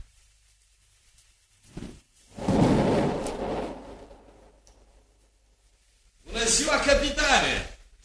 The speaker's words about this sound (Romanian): Unde vezi tu bunătate când tot fulgeră și tună?